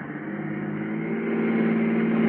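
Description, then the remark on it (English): A car engine hums steadily and grows gradually louder, its mid-pitched tone rising slightly as the car, coming out of an alley, speeds toward the listener, with no voices over it. “It's coming this way and fast, too.”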